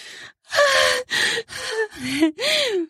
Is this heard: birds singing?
no